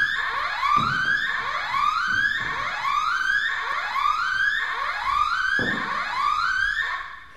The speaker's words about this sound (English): Okay, so just in case you don't realize this, don't worry. We just ignore fire alarms around here.